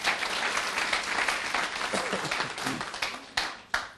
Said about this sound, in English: All right, let's give the Lord a big hand, please.